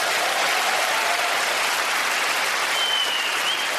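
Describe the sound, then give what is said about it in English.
Steady, loud audience applause fills the whole clip, a dense wash of many hands clapping at an even level with no speech over it. “Don't applaud, you never saw her.”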